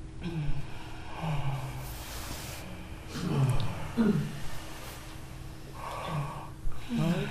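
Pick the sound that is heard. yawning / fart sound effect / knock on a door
yawning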